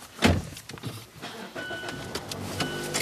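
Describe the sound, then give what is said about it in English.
A car's power windows whir open with a steady electric motor hum, set off by a few sharp mechanical clicks and thumps, fairly quiet, with no talking; all the car windows are being opened for a strong breeze. “I double-masked, opened all my car windows for a strong breeze, and drove Payne to get his first shot”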